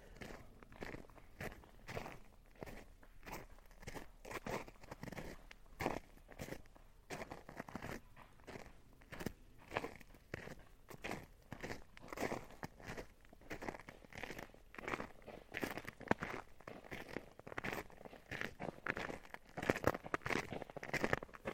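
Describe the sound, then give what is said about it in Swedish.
A jogger runs past on ice, footsteps crunching steadily in a regular rhythm of crisp, gritty impacts that grows slightly louder toward the end, with no voices present. “Det är alltså någon som är ute och joggar här på isen.”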